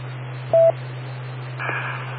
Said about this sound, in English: Wait for the beeps and go ahead with your question.